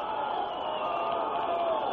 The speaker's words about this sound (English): 77-73. And the Dixie fans up and cheering.